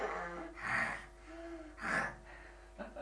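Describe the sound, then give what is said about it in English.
A person imitates another person's snoring, producing two rough, breathy snorts about a second apart, each a raspy inhale swelling and fading, followed by a brief quieter sniff. “Right, does she snore?”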